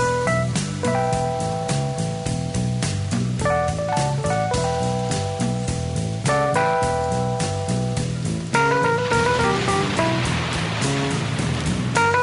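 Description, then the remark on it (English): A song with sustained melodic notes and a steady low pulse, backed by a constant hiss of falling rain that thickens and grows louder in the final few seconds. “The rain in the background.”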